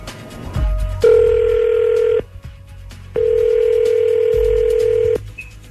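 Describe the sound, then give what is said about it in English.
A telephone ringback tone sounds twice, each steady electronic buzz lasting about a second, separated by a pause, with no one talking, as a call is placed to a man for the radio segment War of the Roses. “we're going to give him a call”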